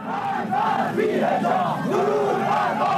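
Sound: chanting mob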